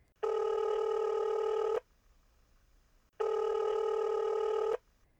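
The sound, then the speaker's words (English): Two steady electronic ringback tones, each lasting about one and a half seconds with a pause between, sounding clear, as a man calls his brother on his phone and waits for an answer. “He quietly closed the door to the bedroom and pulled out his phone.”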